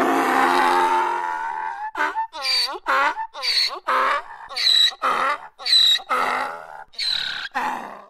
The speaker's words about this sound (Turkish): Hocam, ayıp olmuyor mu? Eşek evde yok diyorsun ama içeriden eşeğin sesi geliyor.